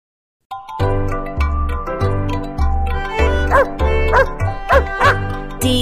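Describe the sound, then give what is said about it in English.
A dog barks several times in a quick, evenly spaced series, the sharp yaps riding on top of a bouncy, tinkling musical backing that plays throughout. “This is a dog.”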